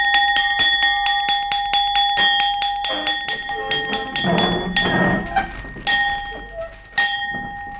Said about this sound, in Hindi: मेरे बच्चों, अब हमें ये महसूस हो रहा है कि आप सबको भूख लगी होगी, लिहाजा आगे का काम आधी छुट्टी के बाद करेंगे। हमारा हुक्म है आधी छुट्टी की घंटी बजा दी जाए।